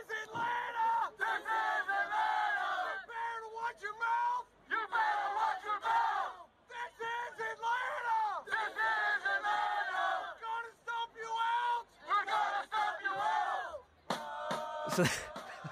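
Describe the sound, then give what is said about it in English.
A large crowd of Atlanta United soccer fans sings a loud chant in unison during pre-season. Voices rise and fall in repeated phrases, with a brief burst of clapping or clattering near the end. “And every once in a while, a video comes out online of American fan culture with song.”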